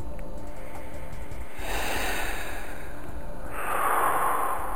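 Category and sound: human body sound, people yawning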